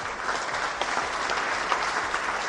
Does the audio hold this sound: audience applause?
yes